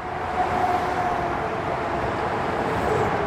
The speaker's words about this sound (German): Der ständige Lärm von der Autobahn. Die verläuft auf der Nordseite nämlich ums ganze Erlenmattareal. Im Park hört man den Lärm vom Verkehr die ganze Zeit.